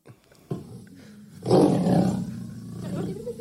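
lion roaring

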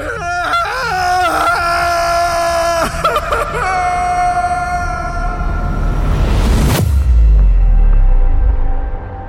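person screaming

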